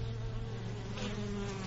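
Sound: honeybees buzzing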